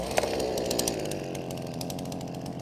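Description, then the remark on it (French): A chainsaw runs steadily at high revs, its buzzing engine loud, with faint rhythmic rasping as the chain bites into wood. No one speaks. “Je lui laisse le droit d'utiliser la tronçonneuse, de couper, de fendre du bois, ça il aime bien, là il s'éclate.”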